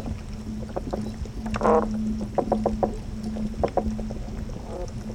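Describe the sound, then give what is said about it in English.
Three or four toadfish call underwater at the south end of the Hudson River: low, steady droning hums overlapping with repeated short grunting pulses, some with a harmonic, buzzy quality, over a murky background rumble. “equally interesting and exciting are the sounds produced by fishes. So, you know, here you have three or four toadfish.”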